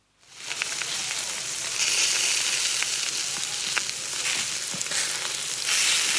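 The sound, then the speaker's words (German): Sausages sizzle steadily on a grill over a fire made after swimming in a lake while camping, a loud, continuous crackling hiss with scattered sharp pops and a few brief clicks as they are turned. No one speaks. “Genau, wir grillen ein paar Würstchen. Also es klang so, als würde man ja so Würstchen so umdrehen, dann so krrrr.”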